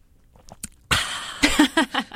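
A few faint clicks, then a breathy slurp as someone sips a Trinidad Sour holiday cocktail made with bitters and topped with lemon, followed by several short wet swallowing and mouth sounds in quick succession.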